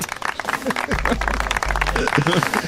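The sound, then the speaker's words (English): Steady, dense applause crackles throughout, a busy wash of many hands clapping at once, with some murmuring voices and a low rumble mixed in partway through. “What do you want from us here? More applause.”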